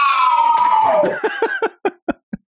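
A loud, sustained 'woo' shout slides downward in pitch, then gives way to about seven sharp hand claps by the same man in a loose, uneven rhythm.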